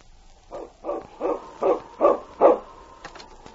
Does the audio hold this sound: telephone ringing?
no